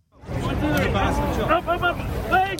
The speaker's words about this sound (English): What you're hearing there are rescuers pulling a man and his teenage son alive from the rubble on Sunday.